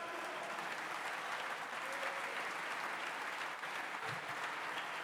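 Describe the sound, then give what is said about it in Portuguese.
Sustained applause from opposition deputies in the Portuguese parliament who stand to applaud, a dense, steady patter of many hands clapping at once with no pauses, fairly loud and continuous throughout. “Quem teve a caneta na mão para decidir, levanta-se hoje para aplaudir quem anuncia, porque está agora na oposição.”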